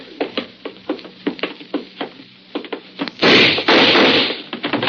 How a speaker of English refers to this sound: I got the door open.